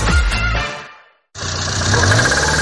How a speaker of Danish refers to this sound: Nej, sådan skal bilen da vist ikke lyde.